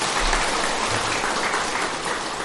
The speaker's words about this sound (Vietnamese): Một lần nữa xin để chúng dành cho một tràng pháo tay. Hay như vậy. Quý vị cho anh chàng pháo tay ha.